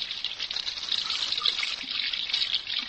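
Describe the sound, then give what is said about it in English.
Hot water runs steadily from a tap, a dense, continuous hiss that stays even throughout, with faint splashing underneath and no voices. “Hot water.”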